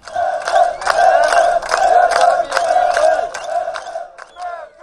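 A large crowd of asylum seekers at the Hungarian border chants "Merkel, Merkel" loudly in unison while raising handmade cardboard signs, voices rising in steady rhythmic bursts roughly twice per second over a dense, continuous roar, then briefly thinning near the end.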